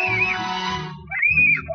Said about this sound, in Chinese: 你看他尖叫，这个是那个 professional nanny 在看。